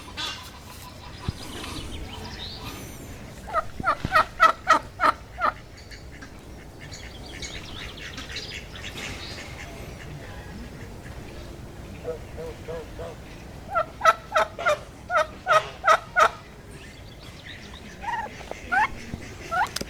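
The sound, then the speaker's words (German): A turkey, by its coloring likely a hen, gobbles in two loud, rapid rattling bursts several seconds apart, with a softer gobble near the end, over a steady background hum. “Eine Pute, ein Truthuhn.”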